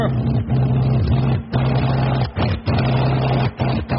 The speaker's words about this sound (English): By heavens, Pitkin, that aircraft engine is cutting out. Look at the thing. It's wobbling all over the sky.